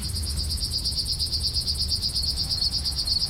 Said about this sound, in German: Ja, das sind Grillen, die da zirpen. Und die hört man ja nicht mehr so oft wie früher noch. Denn auch sie sind betroffen vom Insektensterben.